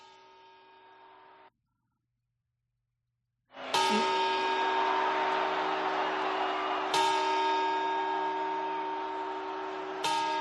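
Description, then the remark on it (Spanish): A short, softer quarter chime fades into a pause, then a large clock bell strikes three times, about three seconds apart, each loud stroke ringing on with rich, sustained overtones: the New Year's Eve chimes of 31 December, played on COPE Euskadi radio. “Exactamente, son las campanadas de Nochevieja del 31 de diciembre.”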